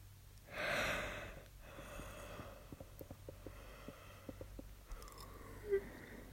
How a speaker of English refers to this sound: Stop yawning. I have to yawn if you yawn.